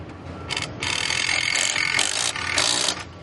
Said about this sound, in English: The drills filling in the first seats inside U.S. Bank Stadium went in on Monday and signaled another major milestone as the opening of the stadium continues to get closer and closer.